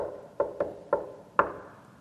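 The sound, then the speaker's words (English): Four sharp, fairly loud knocks on a hard surface: three in quick succession, then a short pause before a fourth. The rhythm stops there, as if left unfinished. “And he's like, "Ooh," He has to come later on and go, like that, hit that knock.”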